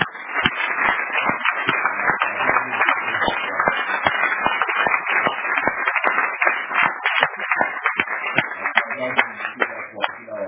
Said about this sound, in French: Je voudrais d'abord qu'on applaudisse très fort pour le Seigneur.